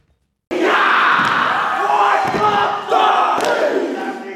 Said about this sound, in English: A traditional war cry echoes throughout a theatre in Sydney. Foot stamping. Body slapping. And loud chants, elements of an ancient war challenge that represents strength and unity.